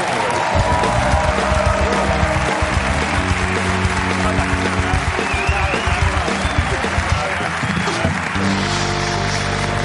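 Studio audience applause on the show La Resistencia, welcoming three guests, a loud steady wash of clapping with some cheering mixed in, holding for about ten seconds and easing slightly near the end, with faint music underneath.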